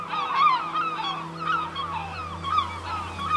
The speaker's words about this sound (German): die Möwen versuchten bereits eine Möglichkeit zu finden, ein Stück Futter zu erhaschen.